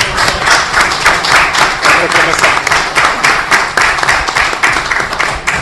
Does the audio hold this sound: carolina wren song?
no